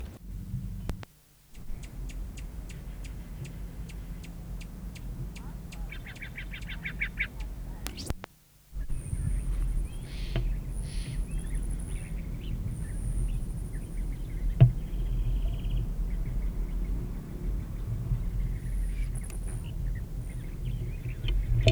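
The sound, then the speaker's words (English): A male rufous hummingbird foraging on Nicotiana: brief high, thin buzzy trills and a few sharp ticks come and go, fairly faint, over a steady low rumbling background with no talking. “Male Rufus foraging on Nicotiana.”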